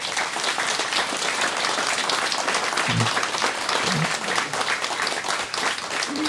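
Sustained audience applause fills the whole stretch, a dense, steady wash of many hands clapping, with a couple of faint voices briefly surfacing beneath it.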